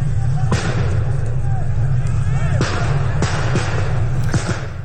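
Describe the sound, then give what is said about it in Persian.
Four sharp, booming pops of tear gas canisters fired by security forces and police to disperse protesters near the Khaju Bridge and the Zayandeh Rud ring out at irregular intervals over a dense, roaring crowd, with voices shouting and chanting throughout. “در مقابل این شلیک گاز اشکاور مردم هم شروع کردن به شعار دادن و ازدحام معترضان که در هول و هوش پل خواجو و به زاینده رود بودن بیشتر شد.”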